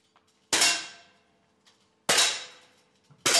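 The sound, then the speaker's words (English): Three sharp air gun shots from youngsters practising on paper targets at a shooting range outside Zurich, Switzerland, evenly spaced about a second and a half apart, each a loud snapping crack followed by a brief metallic ringing decay, with no voices. “A handful of youngsters with air guns practice hitting paper targets at the shooting range outside Zurich.”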